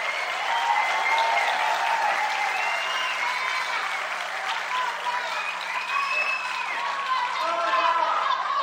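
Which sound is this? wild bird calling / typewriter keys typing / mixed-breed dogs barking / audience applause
audience applause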